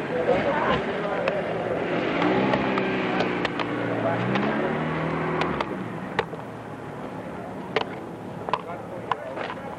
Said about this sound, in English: A block of traffic here, and then it took us back in up here.